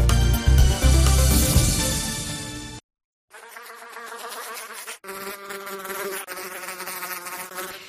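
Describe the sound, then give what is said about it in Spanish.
A loud insect buzz of an Asian hornet (Vespa velutina), droning steadily with a rich harmonic whine, breaking off briefly before resuming slightly softer and wavering for several more seconds. “En los últimos días parece que hay esperanza para encontrar a un depredador de la avispa velutina o asiática, una auténtica plaga en los últimos años en nuestra comunidad autónoma en Galicia y especialmente también aquí en nuestras comarcas.”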